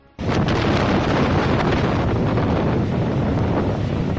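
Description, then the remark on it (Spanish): Loud, relentless wind roars and buffets the microphone over a broad rumble of crashing sea, a continuous storm din with no voices, starting abruptly and staying intense throughout. Recorded by a ship's crew off Newfoundland, amid waves up to 10 metres high and wind gusts up to 80 km/h. “Estos sonidos en medio de las olas de hasta 10 metros de altura y rachas de viento de hasta 80 kilómetros por hora.”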